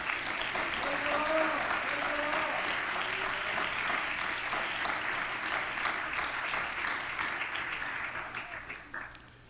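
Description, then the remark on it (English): A crowd breaks into sustained applause for the Lord, many hands clapping at once in a dense, loud wash with scattered voices mixed in, before the clapping thins and fades out near the end. “Let's give the Lord a good hand clap right now.”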